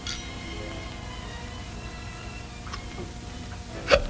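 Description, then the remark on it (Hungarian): A single sharp hiccup near the end, caused by the carbonation of champagne just drunk, preceded by a couple of faint clicks, over a quiet background with a soft ringing tone, like a glass, at the start. No talking. “Na tessék, valahányszor pezsgőt iszom, mindig csuklom a szénsavtól.”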